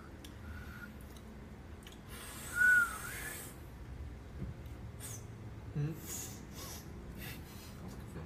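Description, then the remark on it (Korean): A person whistles two brief, thin notes after finishing eating, the first faint and the second a bit louder, amid breathy puffs and soft background noise. “약간 다 먹고 휘파람 불어야지.”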